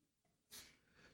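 A muffled sneeze from someone in an audience, a short breathy burst of hiss, followed by quiet rustling and the start of another sharp exhale.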